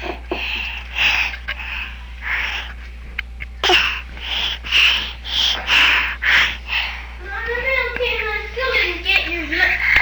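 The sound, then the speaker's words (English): Loud, rapid panting in steady breathy huffs, roughly ten in a row with a brief pause midway, then turning into higher, wavering whiny sounds near the end. “You're just panting.”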